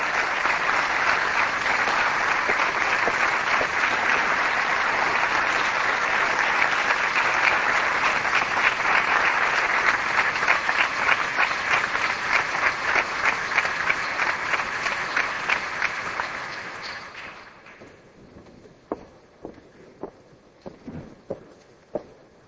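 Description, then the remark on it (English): An audience claps steadily and loudly for about seventeen seconds, applauding two people who have just spoken, a dense wash of applause that then fades away, leaving a few scattered, isolated claps at the end. “I think that what we've heard from those two people is so important, y'all need to stand up and applaud them and support them again.”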